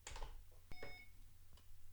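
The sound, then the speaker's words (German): A scanner gives a single short electronic beep just after a click as it is switched on with its on-off switch, a bright, clear tone lasting a fraction of a second, followed by faint handling noise and a low background hum. “So, dann piepst es nur einmal.”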